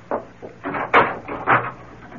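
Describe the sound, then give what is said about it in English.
A door is opened and shut, a handful of short wooden clunks and rattles spread over a couple of seconds, with no one speaking. “Don't bother to come to the door. I'll let myself out.”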